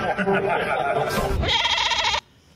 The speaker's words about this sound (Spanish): La cabra está de acuerdo.